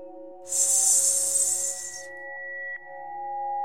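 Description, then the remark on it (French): A steady, sharp hiss of breath pushed out through the teeth in a breathing exercise, like a snake or a pressure cooker, lasting about a second and a half over soft sustained background tones, then fading to just the tones. “Pour le premier, vous allez inspirer sans exagérer, puis expirez en sifflant entre les dents. Comme si vous vouliez imiter le sifflement d'un serpent ou celui d'une cocotte minute.”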